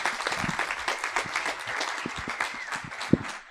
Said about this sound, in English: And thank you. Let's give it one big round of applause. There you go.